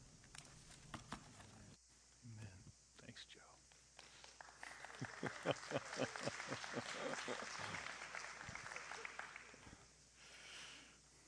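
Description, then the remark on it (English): A Christian audience at a worship service breaks into applause after a scripture reading: scattered claps start, build into a steady wash of clapping, then taper off, with faint murmuring voices underneath. “No one ever claps when I read the scripture.”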